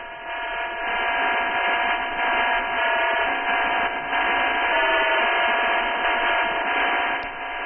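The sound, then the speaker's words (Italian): A steady electronic drone with layered tonal harmonics and a gritty, buzzing texture, holding constant for several seconds with slight wavering: the radio signal of Echo II, the American telecommunications satellite launched on 25 January 1964. “Eco secondo, il satellite per telecomunicazioni lanciato dall'America il 25 gennaio 1964.”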